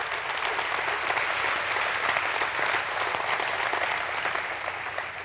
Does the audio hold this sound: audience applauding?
yes